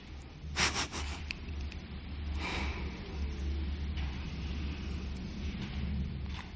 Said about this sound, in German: Und das Geräusch vom Staubsauger kann einfach auch da sein.